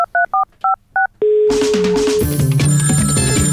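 Five quick touch-tone telephone beeps are dialed for a prank call, followed by a steady ringing tone, then a loud, busy musical jingle bursts in and plays to the end. No one speaks.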